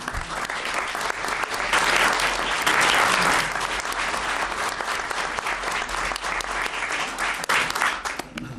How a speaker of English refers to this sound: A lot of great work, and I'm going to go more of what we should, because we're going to applaud that lady, if you will join me.